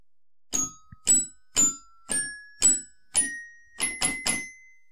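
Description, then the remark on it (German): A short jingle from a jingle machine: eight bright, bell-like chime notes struck in a steady rhythm with ringing tones, the last three coming quicker together. No voices. “Ich würde den Jingle-Apparat holen.”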